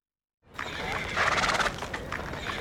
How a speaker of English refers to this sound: You have a lovely horse. How old is he?